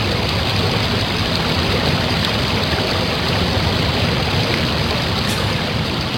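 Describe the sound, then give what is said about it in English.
A steady, loud rush of flowing river water fills the whole stretch, a dense continuous roar with no breaks and no voices. “And at that moment, they heard the rushing of the water.”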